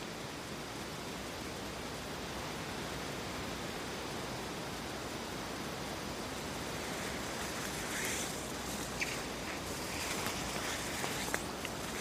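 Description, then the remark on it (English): A steady, unbroken hiss of surf washing on a quiet beach sheltered from the wind by a shelter belt, with no speech; faint soft rustles and light clicks appear over the wash in the final seconds. “There's a good chance just to hear what the beach sounds like in the tranquility of this no man's land.”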